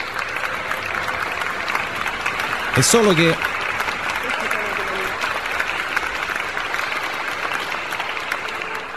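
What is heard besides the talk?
studio audience applause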